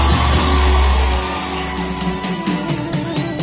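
A music show audience claps and cheers loudly for the performing group, with scattered yells and whoops, a heavy low rumble at the start easing after a second while the dense applause keeps going.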